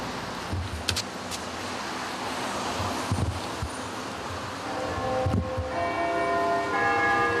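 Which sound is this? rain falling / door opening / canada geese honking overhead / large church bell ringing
large church bell ringing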